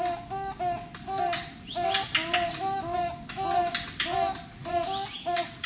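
Two toucan barbets call back and forth in a steady duet, a repeated pattern of honking hoots and sharp notes overlapping continuously, with a faint rustly background.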